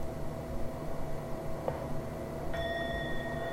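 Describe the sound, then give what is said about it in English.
A bell is struck once and rings out with a steady, sustained high tone layered with bright overtones, holding without fading over a constant background hiss and low hum. “Another way of holding them is with a bell.”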